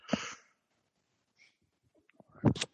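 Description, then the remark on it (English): A person yawning: a breathy, airy intake at the start, a near-silent pause, then a louder rough exhale that trails off at the end, with no talking. “Sorry, I yawned.”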